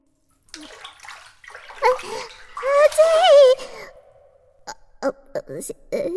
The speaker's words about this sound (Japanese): まずは、手桶にお湯を汲んで。